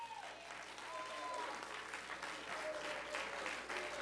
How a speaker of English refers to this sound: To these deacons who confidently carry the covenant of Christ, and to these ministers of music, why don't you give them one more hand?